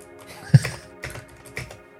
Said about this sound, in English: But this is what the mechanical keyboard sounds like. Sounds cool. Just not when you're me trying to type on the keyboard.